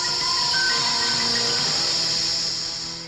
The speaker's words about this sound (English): Touch your skin. It's scaled. Look for your legs. They're gone. Feel your body. It's cold. And listen for the hissing.